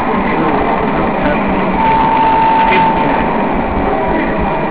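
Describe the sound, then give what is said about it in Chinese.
A small fan whirs steadily throughout, driving a levitating superconductor model developed by the materials department at Cheng Kung University. It makes a dense, continuous airy drone with a faint thin whine rising briefly in the middle. It is fairly loud, with no voices. “那这里呢，它用一个风扇呢，让它呢可以跑啊。”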